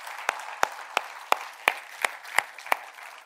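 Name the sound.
audience applause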